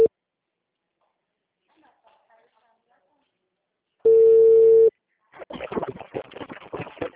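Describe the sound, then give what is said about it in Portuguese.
The ringing tone of an outgoing telephone call sounds once: a single loud, steady, mid-pitched beep lasting about a second after near silence, followed by a voice talking. “Eu coisei não tava chamando, agora chamou.”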